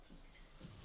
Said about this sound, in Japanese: シャワーで流すね。